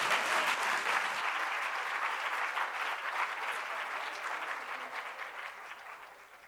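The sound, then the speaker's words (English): A crowd applauds Senator Gillibrand steadily at a Free Library of Philadelphia author event, a dense wash of many hands clapping at even loudness that thins slightly toward the end, with no voices audible over it. “And again, a warm round thank of applause.”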